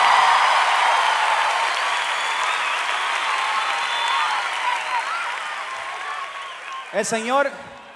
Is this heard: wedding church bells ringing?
no